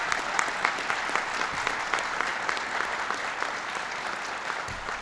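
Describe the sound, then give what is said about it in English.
Sustained audience applause for a nominee named Heather at an event announcing government nominations, a dense steady patter of many hands clapping at even loudness throughout, with no voices rising above it. “So give Heather a big round of applause.”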